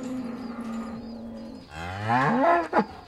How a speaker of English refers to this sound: So I'm definitely not an expert. I can't translate cow moos into English.